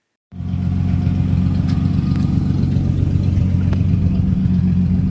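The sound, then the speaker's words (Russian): A large American car engine rumbles loudly at an American car exhibition on a town's main square, starting abruptly and holding a deep, steady throb with slight swells in revs. No one speaks. “Выставка американских автомобилей собрала 50 машин и красивым караваном, проехав по городу, стала лагерем на главной площади перед культурным центром, рядом с памятным знаком, отвечающим за исторический отсчет времени.”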